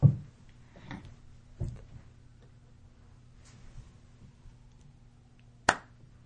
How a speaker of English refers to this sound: You can't clap for your own idea